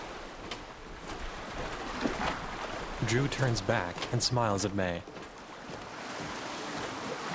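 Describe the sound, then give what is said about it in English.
Steady, soft wash of calm sea water at a rickety aluminum dock under a clear sky, a low continuous ambience with faint wind, while a voice speaks briefly over it midway through. “A rickety aluminum dock extends into the sea.”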